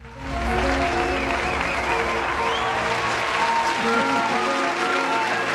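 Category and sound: sound effect, canned applause sound effect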